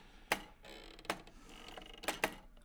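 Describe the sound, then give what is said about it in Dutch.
The mechanism of a hand-turned reed instrument with bellows, turned very slowly so it blows no air, giving a handful of sharp, irregular clicks and knocks over a faint creaking background, with no voices. “Wat ik dan hoor, is ik hoor een soort klappen. Nou, dat is het mechanisme.”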